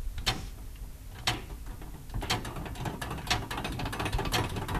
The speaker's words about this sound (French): Alors ça, c'est la sonnerie des quarts, hein. Attention. Attention, 4, 3, 2, 1.